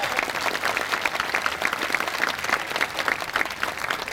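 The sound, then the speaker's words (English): Steady audience applause at a bluegrass show for Randy Davis, a band's bass fiddle player, fills the whole stretch, a dense, even patter of many hands clapping at a constant, fairly loud level with no voices standing out. “Give Randy a hand.”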